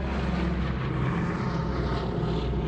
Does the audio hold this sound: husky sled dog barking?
no